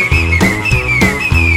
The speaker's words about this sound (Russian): И поэтому с тобой, и поэтому с тобой мелодию нашу поем. А также свистим.